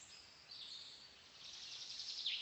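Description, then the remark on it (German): A faint, steady wash of high-pitched chirping from birds singing in a cool, sunny forest, continuing without pause and with no voices. “Du sitzt da auf deiner Decke, entspannt, die Sonne scheint dir auf den Bauch und du hörst einfach nur den Vögeln zu.”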